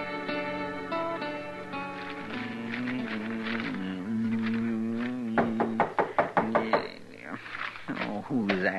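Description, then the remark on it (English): A sustained musical passage gives way to a quick series of about half a dozen firm, evenly spaced knocks on Marshal Matt Dillon's door by Major Harris from Fort Dodge, with the music lingering faintly underneath. “I never heard of nobody knocking on this door before.”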